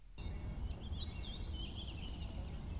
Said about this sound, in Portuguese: Ativar som de pássaros.